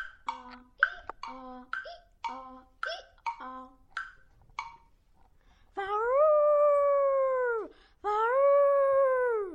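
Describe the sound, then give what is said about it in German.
A dog in the middle of a street howls in two long, loud, drawn-out wails, each holding steady before sliding down. Before them comes a quick series of short, sharp yelping calls. “Ein Hund? Mitten auf der Straße? Warum heulst du denn so pack an?”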